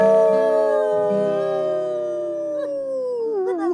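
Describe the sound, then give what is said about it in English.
A person lets out a long, loud wolf-like howl of joy, a single sustained cry that holds steady and slowly slides down in pitch, wavering at the end, with no other sound around it. “A howl of joy do I cry.”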